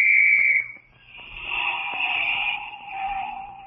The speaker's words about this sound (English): That quarter I spent for this police whistle was a pretty smart investment.